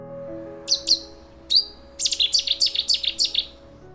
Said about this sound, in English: First recorded in the UK in the early 1960s, a warming climate means their range is moving northward, and they can be found both breeding and overwintering in England and Wales. Listen out for their song in the dawn chorus.